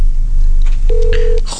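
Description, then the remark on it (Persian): A phone call placed live on a radio show, ringing while waiting for an answer: one steady, mid-pitched ringback tone lasting about half a second, sounding over a low, constant hum with no talking. “خب ما امیدواریم که تلفنشو بردارن.”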